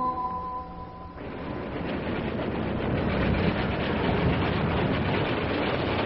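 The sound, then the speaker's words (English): An old car drives along with a steady, loud rumbling engine and road noise, on its way downtown to a radio station. A brief buzzing, horn-like tone sounds at the start, then the rumble grows slightly louder. No one speaks. “As today's episode begins, Sparky, Mayor Plumfront, and I are driving in my old car, my car, on our way to the radio station.”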